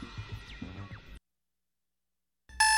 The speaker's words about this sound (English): You wake up to the 8 o'clock buzz to get the week started.